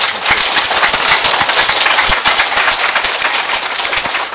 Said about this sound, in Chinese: 我们在此给他再大力的鼓励跟鼓掌好不好。